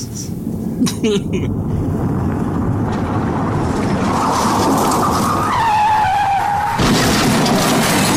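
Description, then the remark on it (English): A car crash with tires skidding loudly, a long screeching squeal rising and wavering over a dense rumble, punctuated by sharp impact and shattering bursts near the start. “Oh, and check out this transition. of a car crash”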